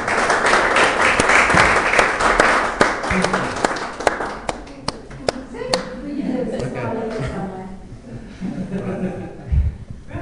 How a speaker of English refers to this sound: I think the children need a big round of applause.